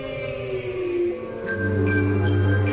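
Sustained, droning synth pads form the ambient soundtrack of the Sega CD version of the video game Echo the Dolphin, with thin high whistling calls of recorded real dolphins gliding in over the steady low tones during the second half.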